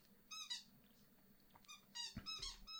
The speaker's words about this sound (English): If you guys could hear that squeaker, it's my dog. He's right next to me. Hey, Peanut.